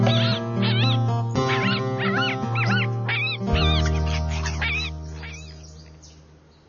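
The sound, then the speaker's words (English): A fox gives a rapid run of sharp, high-pitched yelping calls, about ten in a row, over a steady musical backing that fades away toward the end. “Foxes live in the country.”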